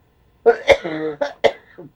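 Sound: cough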